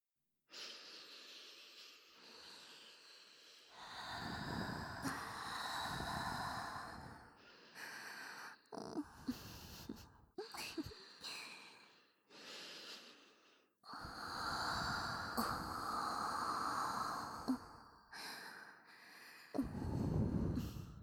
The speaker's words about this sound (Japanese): おばさんたちの吐息はどうかしら。耳の穴から脳内へ甘い吐息を流し込まれて、少し変な気持ちになったんじゃない？